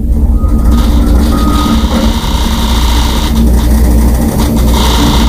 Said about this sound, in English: Jim's got construction going on in front of his house. The road's all torn up, and it's making some noise in his office. This is recorded from inside Jim's house.